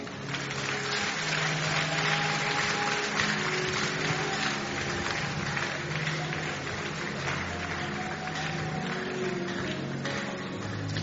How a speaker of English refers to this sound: Don't stop clapping, don't stop clapping.